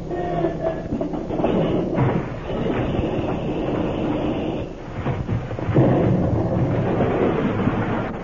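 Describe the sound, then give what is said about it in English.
A plane's just-repaired motor is started up for takeoff and roars with a rough, rumbling, clattering drone that holds steady, dips briefly, then surges louder toward the end. No one speaks. “Okay, I'll take off. You sure you got the motor all repaired? Sure, it's all repaired. Okay, I'll start her up.”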